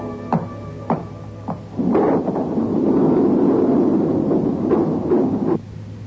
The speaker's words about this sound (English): As the door closed, I experienced that sickening, trapped feeling which I knew so well.